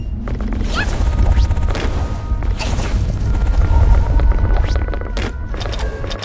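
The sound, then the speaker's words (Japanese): A heavy door, opened with a lever, grinds open through its mechanism, with a sustained low rumble, clanking and creaking metallic scrapes, and a few booming knocks, loud throughout. “頑丈そうな扉だ。 はい、開きましたね。”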